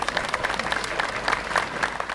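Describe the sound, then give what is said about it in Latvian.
Steady applause from a large audience after a speech by the Pope, dense overlapping claps forming a continuous crackling wash at moderate volume, with no voices standing out. “Pēc pāvesta uzrunas skanēja cilvēku aplausi.”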